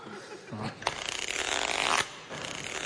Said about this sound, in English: Oh! That zip stuck again.